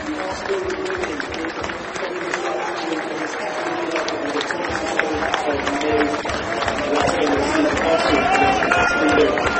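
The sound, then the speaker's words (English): A large crowd of away football fans roars and applauds in a steady, dense wash of voices and clapping as Pascal Gross comes over pumping his fists and clapping them, swelling slightly louder toward the end, in a big stadium. “Pascal Gross coming over to the away fans. Two fists pumping, clapping the fans.”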